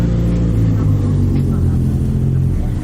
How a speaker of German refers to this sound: Vielleicht sollten wir warten, bis die wilden Motorrad-Jungs hier abgedüst sind.